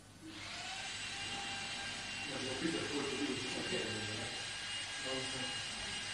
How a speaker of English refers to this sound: What is this? Is it works or some preparing food? But I cannot give class with this drilling.